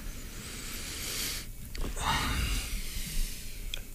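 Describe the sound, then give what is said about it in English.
Loud sniffing right against a microphone in Studio A, smelling it: airy, breathy rushes of inhaled air that swell and fade over a few seconds, with no talking. “We're just sniffing the mics.”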